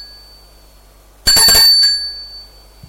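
doorbell ringing

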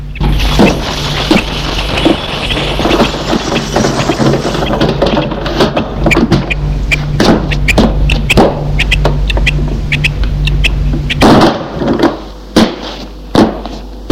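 door opening

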